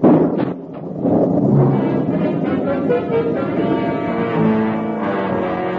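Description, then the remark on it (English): A loud crash of thunder during a storm with lightning, with a deep, heavy rumble that rolls on steadily for several seconds without fading. No voices can be heard. “Thunder boomed, and lightning lit up the sky.”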